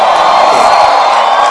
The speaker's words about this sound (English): Clap your hands one more time and make a joyful noise unto the Lord.